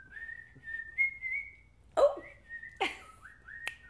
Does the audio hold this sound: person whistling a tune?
yes